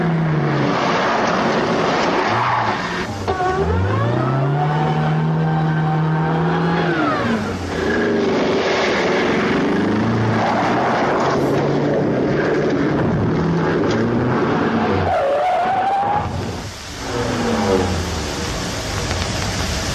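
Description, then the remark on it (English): A Volvo car in a 1962 TV advertisement is driven hard, its engine loudly revving and climbing through gears with pitch swooping up and down, while tires squeal briefly during hard cornering. “Volvo gets over 25 miles in a gallon of gas, just like the little economy cars, and runs away from other popular priced compacts in every speed range.”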